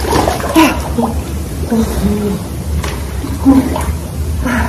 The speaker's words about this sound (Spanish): Y luego, cold plunge. Y luego se meten al agua fría, hasta aquí el cold plunge. 2 minutos, pero está helada.